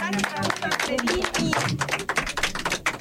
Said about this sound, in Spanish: Queridos niños, gracias por acompañarnos. Gracias por su visita. Gracias, un aplauso a ustedes.